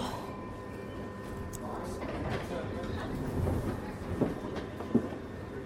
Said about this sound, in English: Please mind the gap between the train and the platform. This is Holborn. Change here for the Central Line. This is a Piccadilly Line service to Northfield.